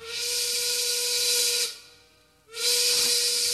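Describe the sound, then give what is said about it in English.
A loud, hissing steam train whistle sound effect, used in the studio recording of a song, blows in two long blasts separated by a brief gap, bright and airy with a steady tonal hum underneath and no talking. “Train whistle, using that studio as an instrument.”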